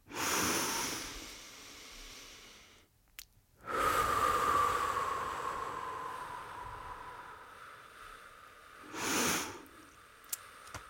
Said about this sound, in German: Ich würde sagen, wir atmen auf 4 ein. Halten kurz die Luft an und atmen dann doppelt so lang wieder aus. Achte mal ganz genau darauf, was passiert beim Atmen, okay?